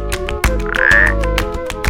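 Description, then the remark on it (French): A midwife toad gives short, spaced, piping calls, including one clear sustained whistle-like note, set against a busy background of rapid croaks and clicks from other frogs. “Tu es « On m'appelle crapaud accoucheur » ou « Alit ».”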